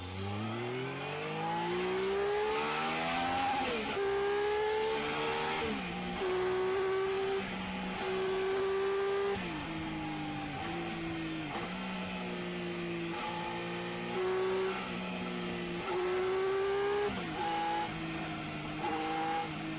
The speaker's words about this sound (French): Il n'y a pas de secret, hein, puisqu'on est, on est sur une moto qui est une sportive. Il faut accélérer.